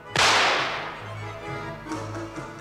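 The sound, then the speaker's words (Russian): A single loud shotgun blast: a sharp, explosive crack that fades slowly into a long, hissing tail over a low, steady rumble, with a faint second swell near the end. “А ну-ка я сейчас как бабахну в черти из ружьишка.”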